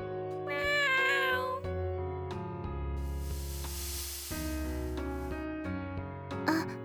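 A cat lets out one clear, fairly loud meow near the start, over a steady hum of background tones, followed a moment later by a breathy, hissing rush of noise.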